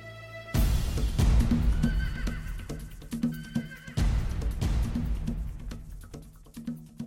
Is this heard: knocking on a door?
no